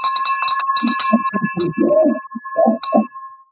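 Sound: bell being rung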